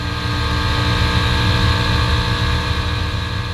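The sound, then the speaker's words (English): A Chevrolet Corvette race car engine, driven by Visit Florida racing driver Ryan Dial during a training run at the Rolex 24 at Daytona, drones loudly and steadily at high revs for a few seconds, a continuous roar with no pauses and no voices. “This is Visit Florida racing driver Ryan Dial in his Corvette during a training run at last year's Rolex 24 at Daytona.”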